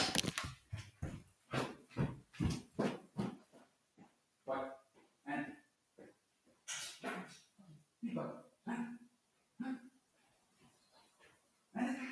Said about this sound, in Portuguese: Olha, eu acho que nós vamos ter que parar porque a tua cadela está histérica.